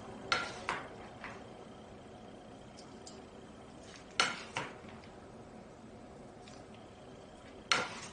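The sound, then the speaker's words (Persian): A metal spoon clinks against a cooking pot in a few sharp taps, some in quick pairs, as a prepared mixture is poured over chicken pieces in the pot, starting from the edges. Quiet kitchen background fills the gaps, and there is no talking. “به این شکل همه رو میریزم روی مرغ‌ها تا مواد تموم بشه.”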